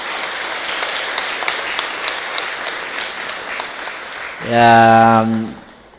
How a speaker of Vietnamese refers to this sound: Do đó nhân dịp này cũng xin cho một tràng vỗ tay Phật lớn để tán dương chung.